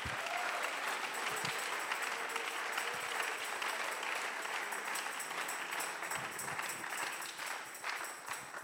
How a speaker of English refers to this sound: Somebody ought to clap your hands. Alguien debe aplaudir sus manos.